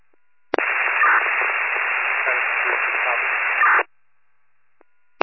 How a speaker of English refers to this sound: We got you, there's another unit calling, it's all static and unreadable.